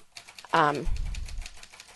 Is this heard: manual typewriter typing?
yes